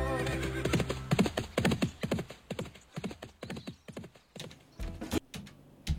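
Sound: horse hooves clip-clopping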